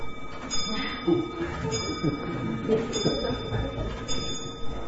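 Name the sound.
clock chiming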